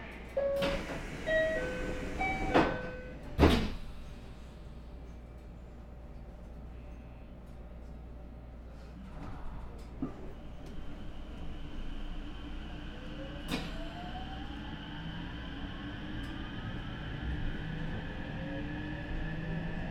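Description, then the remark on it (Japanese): A few sharp thuds of train doors shutting, then a steady low rumble as a train bound for Osafune, Japan, pulls away, with a rising electric motor whine building as it gathers speed. No voices. “ドアが閉まります。おさふね行き が発車します。”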